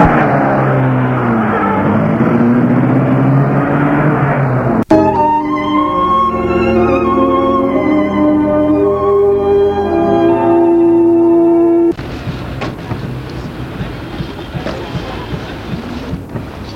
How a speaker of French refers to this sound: Et il met sa voiture en route.